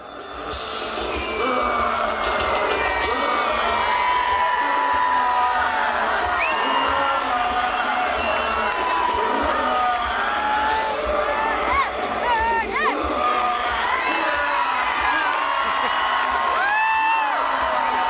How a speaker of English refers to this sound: You can hear there's a kid in that crowd who is yelling, burn him," which I certainly remember doing when I was a child going to Zozobra.